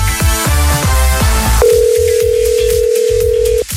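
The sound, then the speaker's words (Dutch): A steady electronic telephone tone, the ringback of an outgoing call to a quiz contestant, sounds for about two seconds, starting right after a short burst of rhythmic music that keeps pulsing faintly underneath. “Ik ga een telefoontje plegen.”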